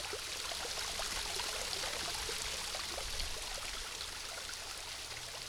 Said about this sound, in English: The rocky ledges that form the framework of the waterfall are now covered in icicles, sparkling in the sun. Water trickles here and there, dripping into pools which are bright green with algae and moss.